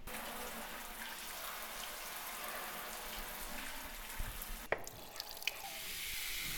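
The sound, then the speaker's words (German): Water runs steadily from a tap into a washbasin, a constant bright hiss and splash, broken near the end by a brief dip and a few small clinks before the flow resumes. “Der Waschbecken.”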